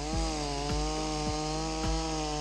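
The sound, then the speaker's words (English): A chainsaw roars steadily and loudly, its engine drone rich with harmonics, broken by regular grinding pulses as the blade bites through wood roughly every half second. “Take a chainsaw, for example, roaring in at 110 decibels.”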